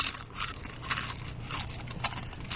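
Loud crunching of someone chewing crackers, with repeated crisp bites and crackly mastication in an uneven rhythm, with no talking.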